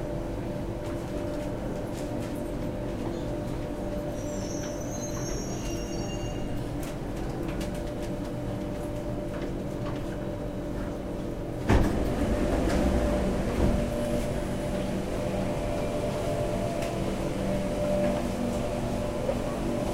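A steady low rumble of a train idling at a platform, with a sudden louder surge of mechanical noise partway through as it stirs, and a brief high squeal early on.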